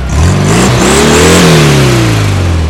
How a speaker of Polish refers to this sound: Jak się podoba ten przejazd garbusów? O, bardzo ładny, elegancki, bardzo mi się podoba.